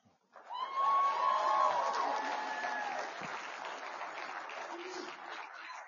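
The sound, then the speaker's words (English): A rowdy crowd at a Bible Institute graduation ceremony erupts in loud cheering and clapping as a graduate receives his degree, with shrill whistles and whoops near the start, the roar holding steady for several seconds before easing slightly. “Needs security for that that unruly crowd over there.”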